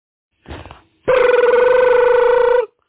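A brief scuffling noise, then a telephone rings once: a loud, steady electronic tone with a slight warble that holds for about a second and a half before cutting off. No one speaks.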